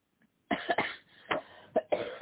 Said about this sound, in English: I'm sorry. I cough more, I think, in the morning.